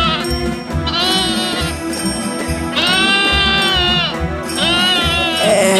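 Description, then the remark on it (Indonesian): A loose billy goat at a market bleats loudly, several wavering, drawn-out calls in a row over a steady, busy background rumble, while people try to catch it. “Ada seekor kambing jantan yang terlepas. Kambing itu nampak liar.”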